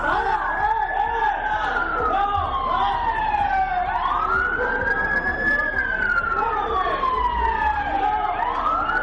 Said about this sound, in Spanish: Se escuchan sonidos de sirenas, de coches patrulla, las voces desesperadas de los agentes pidiendo calma a los vecinos que saltaban incluso de un edificio a otro para evitar que el fuego les alcanzase.